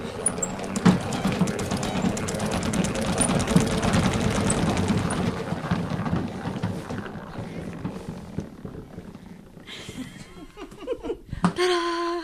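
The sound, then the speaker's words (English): A salad spinner spins the excess water off lettuce, whirring and rattling loudly for about nine seconds, a dense clattering drone that then winds down and fades, followed by brief laughter and voices. “We shake it, give a good spin, so it'll get all the excess water off of it. It's going to make a lot of noise.”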